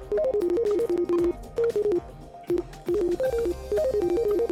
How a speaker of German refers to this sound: Ich glaube, mein Schwein pfeift. Nein, es denkt. So klingt es, wenn ein Schweinegehirn arbeitet. Sagen jedenfalls die Entwickler, die der Unternehmer Elon Musk aufs Gedankenlesen angesetzt hat.